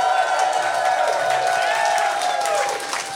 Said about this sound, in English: Pretty good. There are too many people clapping.